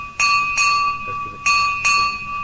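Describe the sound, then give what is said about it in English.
A single bright bell struck five times in quick pairs, each clear strike layering over the ringing, sustained tone of the last, loud. “We need one bell and we hit it five times.”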